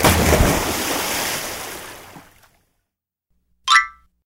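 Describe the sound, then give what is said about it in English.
A loud, broad splash of water as five chickens fall into a lake from a capsized boat, slowly subsiding over about two seconds into silence, followed by a short, bright springy boing. “All the chickens splashed into the lake.”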